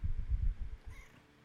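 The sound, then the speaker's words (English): A cat named Mochi gives a short, low, throaty meow that trails into a brief higher whine, fairly quiet, with no talking over it. “Mochi, can I get another cat?”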